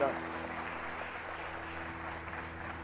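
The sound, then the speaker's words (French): An audience applauding the anointing of God, a steady, dense wash of clapping that holds at an even level for a few seconds, with a low sustained hum running underneath. “Est-ce que vous pouvez dire un dernier amen et applaudir avec moi ce soir l'onction de Dieu?”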